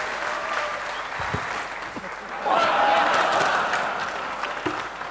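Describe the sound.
An audience applauds steadily, a dense, crackling wash of clapping that swells louder midway and holds. A short whistle-like tone rises out of it briefly, and some voices mix into the noise.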